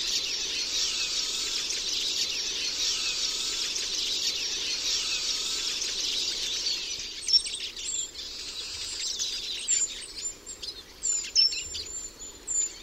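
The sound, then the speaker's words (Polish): A Eurasian siskin's buzzy, twittering song with its 'czyżyk' call phrase: a dense high chatter for several seconds, then a run of separate sharp chirps and short wheezy notes, with no voices. “A teraz kilkakrotnie powtórzymy fragment nagrania z frazą czyżyk.”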